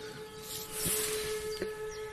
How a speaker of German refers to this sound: Hört ihr es? Da passiert gerade irgendwas. Die Sirenen heulen los.